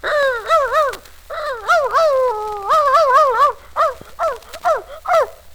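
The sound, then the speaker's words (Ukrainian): A man imitates a dog in a barking monologue, a rapid run of high yapping barks and whiny yelps, some stretched into a drawn-out whimper, then several quick separate yaps to finish. No other talking. “Отак цілий день гавкаєш.”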